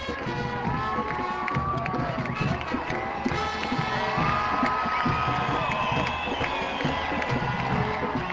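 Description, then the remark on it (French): A large crowd cheers and shouts continuously, with scattered clapping and raised voices blending into a dense, steady roar that stays loud throughout. “Pourquoi les gens applaudissent et crient et...”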